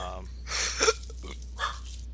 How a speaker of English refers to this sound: shut up, dog. Hey, dog, shut your mouth.